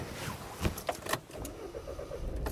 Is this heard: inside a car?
yes